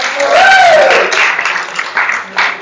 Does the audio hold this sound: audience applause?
yes